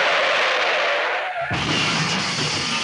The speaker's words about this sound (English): And yeah, we have both the … and the crashing skidding noise.